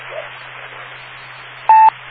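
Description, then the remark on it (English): A single short electronic tone beeps near the end, clear and loud above a steady hiss and low hum of a telephone line; no one speaks. “who do have a question or a comment, please give me, wait for the four beeps, give me your call letters and your name, and the word yes right now,”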